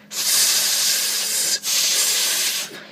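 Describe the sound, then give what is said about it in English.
People imitate a snake with two long, steady hisses, loud and breathy, with a brief gap between them. No words are spoken. “No, snake noises. Go on then.”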